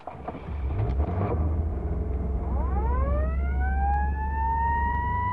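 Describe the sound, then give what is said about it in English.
A fire engine departing after a fire practice: its siren winds up from a low growl to a steady high wail over the deep rumble of a running engine, loud throughout. “All aboard the engine now.”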